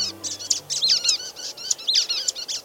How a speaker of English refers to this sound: We're hearing the calls of brown-headed nuthatches moving through the tall, longleaf pines of the Apalachicola National Forest in Florida.